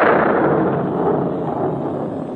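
A deep, loud rumble of thunder rolls on steadily for a couple of seconds, broad and booming, easing off only slightly toward the end, heard in a narrow gully under a cloudless sky. No voices are heard.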